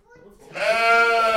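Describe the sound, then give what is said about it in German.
A single loud sheep bleat on a farm rises after a brief quiet start and holds as a strained, wavering cry with a rough, buzzy tone. “Ja, wir haben im Moment 18 große Schafe und 15 Lämmer.”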